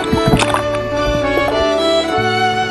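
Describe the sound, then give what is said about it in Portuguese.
A small fishing boat out on the water in the late afternoon as the fishermen cast their nets: a steady, droning hum with some splashing and gurgling, fairly loud, with no one speaking. “Hoje, nesse pequeno barco, no fim da tarde, eles jogam as redes.”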